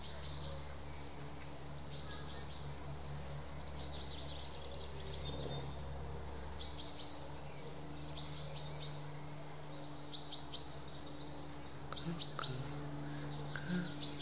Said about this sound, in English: I don't know if it's going to pick that up, but what we can hear is a cuckoo.